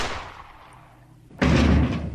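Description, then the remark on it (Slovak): Loud gunshots at a huge cabin overgrown by nature: one already echoing away at the start, then a second sharp, powerful blast about halfway through that rings out with heavy reverberation. No one speaks. “Počujem výstrely.”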